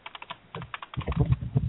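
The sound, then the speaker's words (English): Rapid typing on a computer keyboard, a steady patter of clicky keystrokes that grows busier and louder in the second half, with no voices. “Wait, you don't like my typing sounds?”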